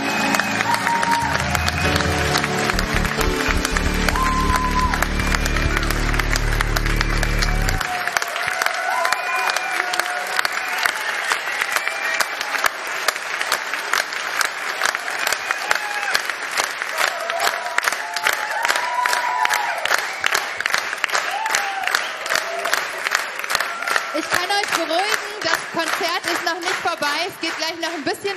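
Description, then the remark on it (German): A large audience gives a special round of applause to thank a woman for all her work, clapping loudly and steadily, dense clapping filling the whole stretch, with cheers and excited voices rising out of the crowd and a deeper rumble at the start. “Und jetzt sollen wir jetzt einen ganz besonderen Applaus geben.”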